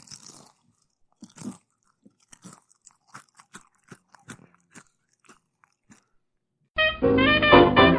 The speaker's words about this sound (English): The important thing with making a crunch is to kind of open the mouth and inflate the cheeks so that you get a good cave effect, like... If you're going to crunch, man, crunch away from the mic.